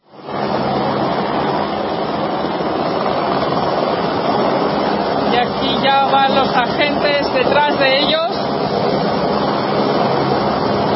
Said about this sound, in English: yelling with giant Venezuelan flags surging across the border